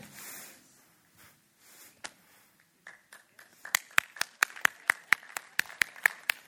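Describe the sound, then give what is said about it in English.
Scattered claps at first, then an audience falls into steady rhythmic clapping, sharp evenly spaced claps growing louder, with no talking. “Clapping's good, but if we're going to clap, let's do big clap.”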